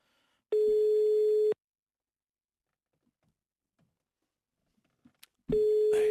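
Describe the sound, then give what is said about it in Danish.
A telephone ringing tone sounds through a loudspeaker: a steady, buzzy one-second tone, a long silent pause, then the tone starting again. It's loud and clear, with no voices. “Så skru for helvede op for den telefon.”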